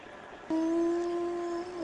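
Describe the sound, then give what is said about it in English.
A dog howls in one long, steady, mid-pitched note that starts abruptly and holds for over a second, sounding loud and clear above a faint background hiss, with no talking. “This is stupidity, really, with the fucking dog and everything.”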